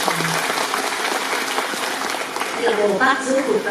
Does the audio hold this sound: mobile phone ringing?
no